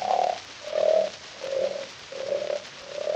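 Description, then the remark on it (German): A husband snores in a steady rhythm: five drawn-out, croaky, mid-pitched rumbles in quick succession, each swelling and fading, with no talking over them. “Nur hör bloß einer, wie mein Olla wieder schnarcht.”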